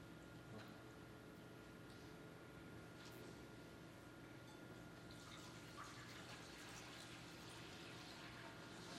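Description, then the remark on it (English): Liquid pours steadily from an earthen vessel during a church charge to a new deacon, a continuous soft splashing and trickling that runs for several seconds at a modest, even level, with no one speaking over it. “As this earthen vessel represents the life of Jesus Christ has given you, out of your love for Christ, who poured out his life for you, will you pour out your life for his body, the church?”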